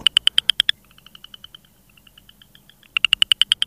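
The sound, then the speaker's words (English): Southern chorus frog calling in rapid, raspy pulsed trills, like fingers running along a comb: a loud burst of clicks, a softer run of pulses, then another loud trill. No voices. “The call sounds like a person running their fingers along a comb.”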